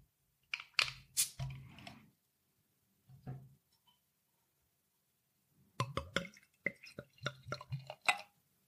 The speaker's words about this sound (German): Blond Ale eingebraut, genau. Alkohol hat 7,5 Volumenprozent. Drin sind helles Gerstenmalz, Karamellmalz, die Hopfensorten East Kent Golding, Saphir und Ariana. Und natürlich ist auch noch Wasser und Hefe drin. Gut, dann mache ich die Flasche mal auf.